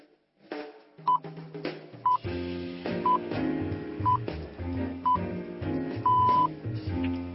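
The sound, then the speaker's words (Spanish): A radio time signal sounds over steady background music: five short, high beeps one second apart, then a sixth, longer beep marking 4 a.m. “El último punto de la señal nos acaba de indicar las 4 de la madrugada.”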